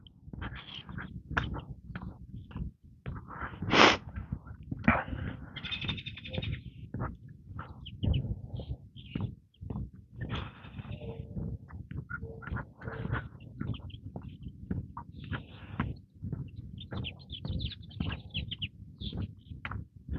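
bird chirping nearby

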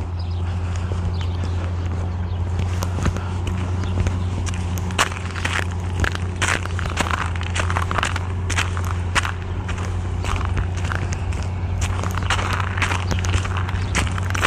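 footsteps walking on ice

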